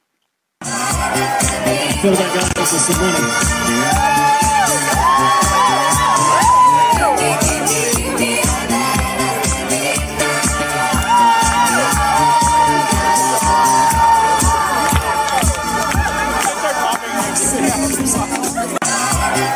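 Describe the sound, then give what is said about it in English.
A loud party crowd cheers and shouts nonstop for nearly twenty seconds, a dense wall of excited voices with whoops rising over the din. “When we push play on this video in just a second, look for the little, like, you know, white-shirted, blonde, toe-headed speck in the middle of the crowd being lifted up”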